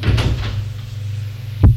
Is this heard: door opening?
yes